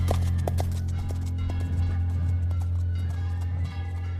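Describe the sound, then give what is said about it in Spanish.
Horse hooves clip-clop in a loose, uneven rhythm, sharp knocks standing out over a steady low rumble for a few seconds, with no voices. “Ole los caballos buenos.”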